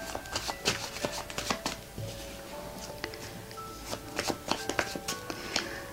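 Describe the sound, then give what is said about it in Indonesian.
Cards being shuffled before drawing seven cards for a reading for the sign Cancer, in a steady series of soft, crisp riffles and slaps, quick bursts repeating for several seconds with no one speaking. “Nah, sekarang kita mulai, Bunda akan shuffle dengan 7 kartu.”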